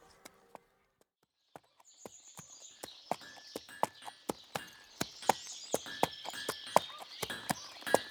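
Steady clip-clop of a ridden horse's hooves at a walking pace as it crosses a village and enters a yard, sharp, with a faint chirping of insects and a soft background hum filling in after the first few strikes.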